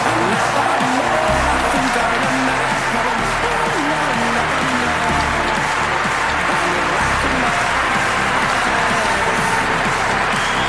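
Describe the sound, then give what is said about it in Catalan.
A standing ovation lasting over a minute at the Palau Blaugrana basketball arena, welcoming back Xavi Pasqual on Dinamo de Bucarest's visit to Barça: sustained, dense applause from a large crowd, loud and steady with a roar of voices and cheering mixed in, never letting up. “Amb aquesta ovació llarguíssima, més d'un minut, el Palau Blaugrana va rebre dempeus un dels nostres.”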